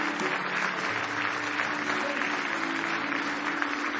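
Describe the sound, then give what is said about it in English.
Sustained applause from a church audience giving a hand clap of praise to Jesus in a morning service, a dense continuous wash of many hands clapping at steady loudness for the full few seconds, with no voices standing out. “Give Jesus one more hand clap of praise this morning.”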